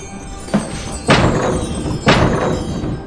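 A couple of dull, heavy thuds as someone runs into a door land about a second apart over a steady hum of background noise, with a fainter knock just before them.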